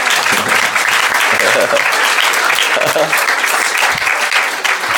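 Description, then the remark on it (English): A crowd applauds steadily for about five seconds at the end of a Krishna consciousness talk, a dense, loud wash of many hands clapping at once, with a few faint voices murmuring underneath. “I think you clap because now it's over and you can eat prasadam.”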